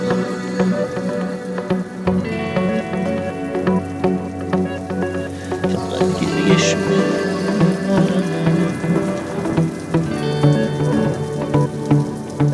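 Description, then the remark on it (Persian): Steady rain patters continuously throughout, a dense hiss of drops heard alongside sustained tonal music that plays beneath it from start to finish. “چه بارونی داره میاد”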